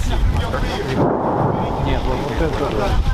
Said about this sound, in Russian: Нет, вот это они же совсем рядом. Сколько километров? 122 миллиметра минимум был переход. Да. Звук был серьезный. Пушка. Полтора километра линия, где стоят.